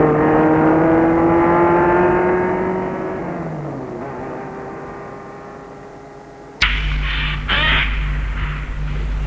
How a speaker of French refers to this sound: Arrivé à Beaujeu, sa maison est une vieille ferme rénovée, en retrait du village et de la route. Elle est seule et isolée. Il arrête sa voiture dans la cour de la ferme.